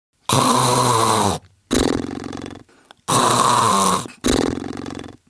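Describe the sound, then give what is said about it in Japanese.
Loud, heavy snoring in four long rumbling breaths with short pauses between them, dominant with no talking over it. “豪快ないびきがあたりに響き渡ります。”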